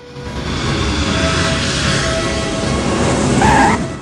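A stealth fighter jet lowers its undercarriage and descends towards the runway to land, its engine a steady, loud roar throughout, with a brief high squeal near the end before the noise starts to fade.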